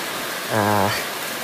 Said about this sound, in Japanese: 雨だな、もう今日に限って傘忘れちゃったよ、びっしょびしょだ。あ、どうも、雨宿りですか？